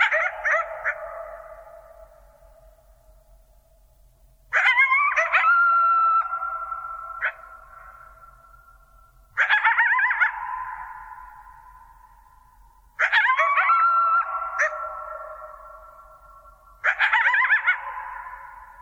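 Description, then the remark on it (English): Coyotes howl and yip together in about five repeated bursts, each a wavering, high-pitched chorus that trails off into quiet. They sound clear, with no voices. “But the point that I think that they really bring out is that if there were the slightest jet rumbling in the background, the experience of these coyotes would be entirely different.”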